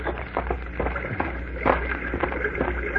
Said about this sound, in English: Oh, I think I hear running water. Yes, you're right. Come along.